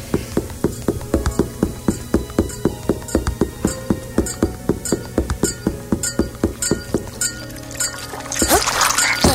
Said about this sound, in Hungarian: Ez nem a víz volt, egy olyan bestia volt, ami nem keverendőd össze a vízzel, ugyanis az ilyen szörcsögös, nyálkás hangja van, de ha az nekünk jön, akkor nagyjából 40 életerőnket veszi le.